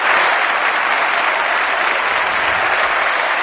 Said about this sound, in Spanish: Bonita la ovación para Guerrero.